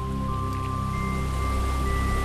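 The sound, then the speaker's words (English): Bubbling river water off in a distance in a forest at sundown runs in a steady, continuous wash of noise, with faint sustained tones humming underneath and no voices. “You hear the hypnotic sounds of the bubbling of the rivers and the waters off in a distance, and nature seems to be lulling you to sleep.”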